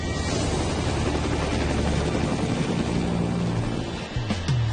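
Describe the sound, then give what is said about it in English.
A helicopter en route to Lockheed River flies with a steady, loud drone of low rotor thrumming and engine whine, constant throughout, with a brief dip and thump near the end; no one speaks. “Your helicopter was picked up. And on route to a point called Lockheed River.”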